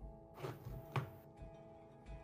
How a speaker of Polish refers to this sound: I zamkną drzwi.